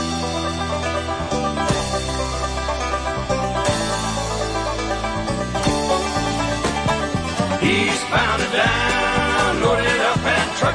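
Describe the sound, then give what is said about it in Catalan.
An upbeat country song plays loud and steady, with a driving bass line, twangy guitar and bright instrumental accents building through the intro, no voices yet. “avui marxem amb l'energia pura al pedal a fons de l'…”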